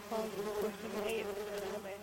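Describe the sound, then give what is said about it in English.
A dense, steady drone of many bees buzzing inside a moving truck, the humming wavering slightly in pitch and holding loud throughout. “Yeah, my truck, it's full of bees.”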